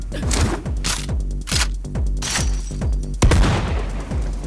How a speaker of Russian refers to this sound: Замечены выстрелы в зоне обслуживания. Вероятно, присутствуют преступники.